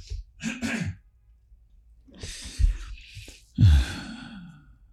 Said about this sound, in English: And now I'm going to cough after that beautiful sentence. Hold on.